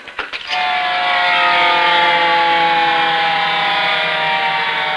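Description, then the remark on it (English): A police car pulls up outside, its siren blaring loud: a steady sustained wail that kicks in after a few brief knocks and holds without pause to the end. No one speaks. “Outside, another police car pulls up.”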